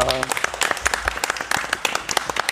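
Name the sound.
small audience applause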